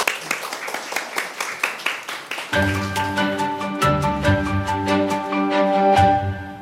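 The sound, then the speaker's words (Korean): Audience applause for a lecture on communication and listening, dense rapid clapping throughout, joined after a couple of seconds by sustained music with steady tones playing underneath the continuing claps. “그래서 오늘 세 번째 강연 소통과 경청에 관한 것 박수로 다시 한번 청해 듣겠습니다.”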